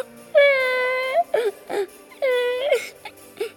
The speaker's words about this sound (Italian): È molto triste e piange